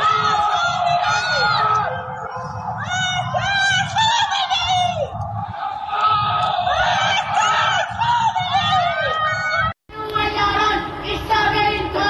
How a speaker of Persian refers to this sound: در یکی از ویدئوهای منتشر شده معترضان از پنجره فریاد مرگ بر خامنه ای سر می دهند، در حالی که در پس زمینه آتشبازی جمهوری اسلامی به مناسبت سالگرد انقلاب 57 دیده می شود.